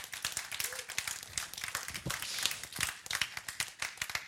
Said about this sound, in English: Round of applause. Let's go.